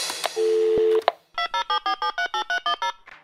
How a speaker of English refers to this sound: Hi, thanks for calling Wow in the World. After the beep, get ready to record.